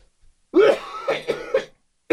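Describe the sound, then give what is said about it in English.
A wet, phlegmy cough followed by rough throat clearing, several raspy bursts over about a second, then a brief final hack at the end; no talking. “A little bit of phlegm coming up there.”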